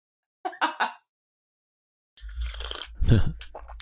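slurping tea

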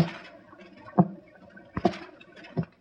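tapping on a door

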